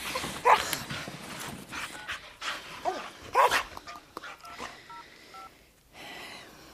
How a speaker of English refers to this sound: Van Gogh, sit. I can't play now. Oh, get off my clothes, you bad dog. I'm trying to pack.